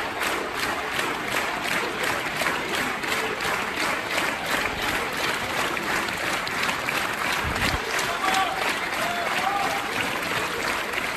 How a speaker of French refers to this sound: dans le 10e arrondissement pour rendre un hommage surprise aux deux pompiers de cette caserne décédés dans l'explosion rue de Trévise. Les habitants se sont regroupés, les habitants du quartier, et ils ont applaudi très chaleureusement les pompiers.